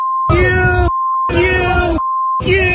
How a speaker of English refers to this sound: You can fill in the blanks on all the beeps going on.